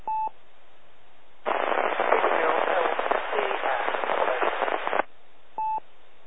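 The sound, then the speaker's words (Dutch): Loud hissing static on an amateur radio net, with a weak station's transmission buried deep in the noise and hard to make out. Short electronic beeps sound before and after the burst. “Zwak en diep in de ruis.”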